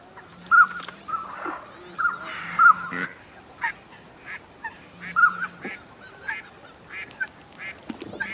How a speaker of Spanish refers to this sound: Silba un nánade rabudo.